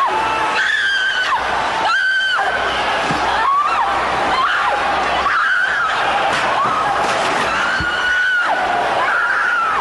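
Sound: scream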